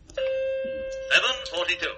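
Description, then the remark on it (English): A single clear chime rings out and sustains steadily for about a second, a radio time-signal gong marking 7:42, before a voice begins speaking over its fading tail. “7:42 exactly by the gong.”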